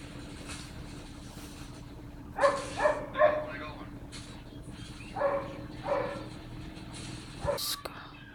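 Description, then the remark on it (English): A dog barks repeatedly: a quick run of three sharp barks, a pause, then a few more spaced yaps, all over a low steady background hum. “The dog is so loud.”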